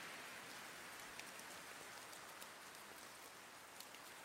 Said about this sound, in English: It looks like we're getting light rain now. It's going to pick up in a few hours.